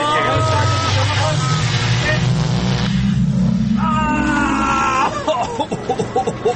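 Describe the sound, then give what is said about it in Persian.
A loud time machine launching effect: a deep engine-like roar climbs steadily in pitch beneath whooshing static and warbling electronic tones, then breaks into choppy, fluttering bursts at the end. “بریم ماشین زمان جان که خیلی شده بزن.”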